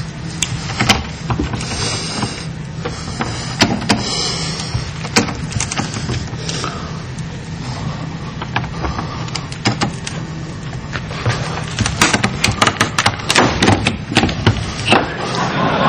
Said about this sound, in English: And this is a special breaker tool that's available in a... widely available. This isn't anything difficult. So then he's just tightening the screw and he's going to pull the lock right out of the door.